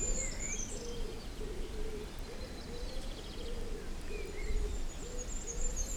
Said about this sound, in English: A pigeon every now and again. Die nahe Stadt, eine Taube, die Weite.